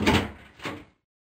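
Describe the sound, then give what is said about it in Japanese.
A door to a school science preparation room, normally kept locked, swings open in two broad, scraping surges, a rough rumbling slide followed by a second shorter push, then silence. No voices accompany it. “いつも鍵がかかってるはずなのに開いてるわ。”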